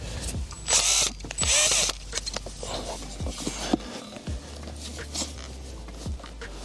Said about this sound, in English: So we're just gonna cover that up, and now we're just gonna screw that into the tree. And for that, I got my trusty drill. So again, I'm putting it on the side of the tree that you can't see.